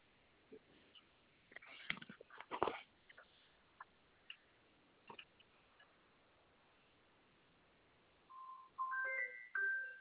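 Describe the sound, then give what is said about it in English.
A few soft clicks and handling rustles, then a phone ringtone from a practice call starts near the end: a bright electronic melody of stepped tones, moderately loud, with no voices. “No, could you just do a practice phone call to it to make sure it's, yep.”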